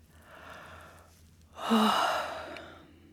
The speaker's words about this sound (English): Coming back, have a good stretch. Then flex your muscles and yawn.